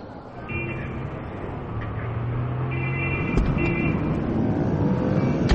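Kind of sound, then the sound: vehicle, taxi cab pulling up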